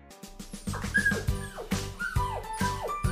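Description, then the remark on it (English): A dog whimpers and gives short barks, a steady run of yelps and falling whines repeating roughly twice a second with no talking, in a comedy radio advert for Discount Dogs selling used, broken old dogs. “We got used up, crook old dogs.”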